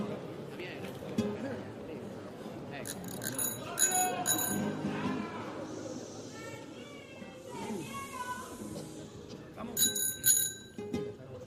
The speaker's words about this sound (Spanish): El anillo, el timbre de bicicleta. Un timbre de bicicleta, sí, sí. En el anillo.